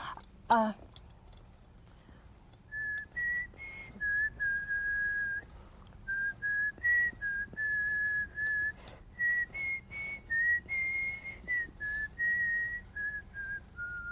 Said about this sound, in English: Can everybody whistle?